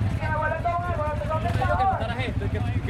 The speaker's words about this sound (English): Every half hour, a new caravan of motorcycles leaves a central park in Caracas, headed for La Guaira. That's the coastal state hit hardest by the earthquakes. The park has become an improvised relief hub.